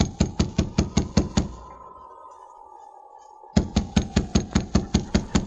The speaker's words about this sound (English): Stand back, so he'll be out of his line of fire if he is inside. I'll knock on the door.